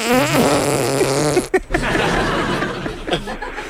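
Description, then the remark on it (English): Buzzy armpit farts squeezed out in a quick, stepped melody that mimics a phone ringtone, followed by a sharp pop and rougher, sputtering flatulent noises with faint chuckling. “Oh, is that your phone ringing?”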